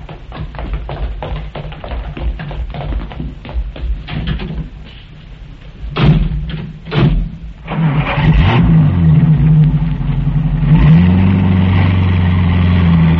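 A series of small clicks and a couple of thumps give way to a car engine turning over and catching, then revving up loudly before holding a steady roar.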